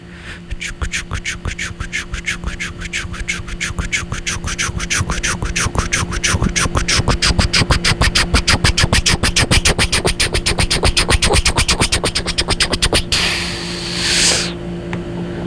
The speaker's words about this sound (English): Yeah, there it is. It's the Sleepy Town Express. The train straight into Sleepy Town. All aboard, guys.